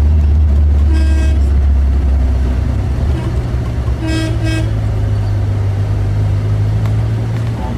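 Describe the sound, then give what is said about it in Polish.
A car horn honks several times, one blast and then two quick toots a few seconds later, over a loud, steady engine rumble, as drivers warn each other on a narrow mountain road in southern Portugal. “Tam drogi są tak wąskie, że kierowcy ostrzegają się wzajemnie klaksonem.”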